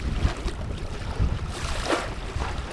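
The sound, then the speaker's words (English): Water laps gently against the shore of Lake Springfield in Springfield, Illinois, a steady wash broken by a few soft splashes, with low wind rumble in the background and no voices. “As water laps along the shores of Lake Springfield, it seems like there's little reason to worry.”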